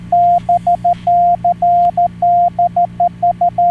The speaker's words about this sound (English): Oh, it's... No. It's just Morse code?